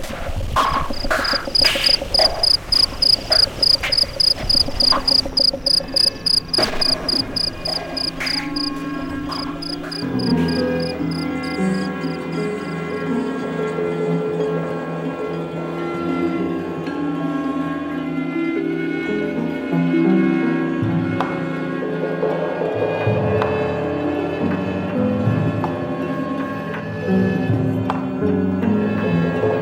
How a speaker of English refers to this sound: They rub this file very quickly back and forth over the edge of the outer casing. You rub a pencil over the teeth of a pocket comb, you get a very similar result. Here's a cricket at work.